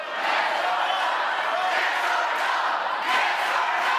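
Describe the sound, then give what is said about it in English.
A crowd at a debate moderated by Univision's Jorge Ramos chants "yes or no" loudly and continuously at State Assemblyman Travis Allen, many voices blending into a dense, steady roar with slight rhythmic swells, no single voice standing out. “The crowd egged him on, chanting yes or no.”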